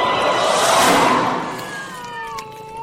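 A burst of hissy, noisy sound gives way to drawn-out, wavering cat yowls, a few overlapping meows and caterwauls sliding downward in pitch. No one speaks.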